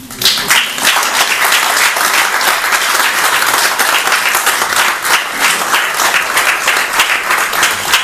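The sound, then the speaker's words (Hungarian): Steady, dense applause from an audience at an art exhibition opening, congratulating the artist. Many hands clap at once in a loud, continuous wash of crisp claps that holds evenly for about eight seconds with no voices. “Kérnék egy rövid tapsot.”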